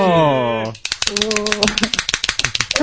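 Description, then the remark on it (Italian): A voice holds a sustained tone, then applause breaks out: a dense patter of quick, irregular claps, fairly loud, with voices still sounding underneath. “Wow, anche grande, l'applauso.”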